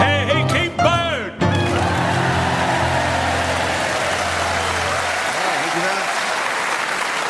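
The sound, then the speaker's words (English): A brief burst of singing over Colin Sell's piano cuts off, then a crowd in Norwich breaks into steady, dense clapping, slightly out of time, that carries on loudly and evenly for several seconds to the end. “Singing and Colin Sell on the piano and the people of Norwich clapping slightly out of time.”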